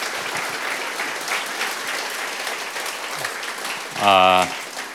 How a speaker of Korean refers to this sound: 할렐루야. 우리 하나님께 우리 감사와 영광의 박수 올려드리겠습니다.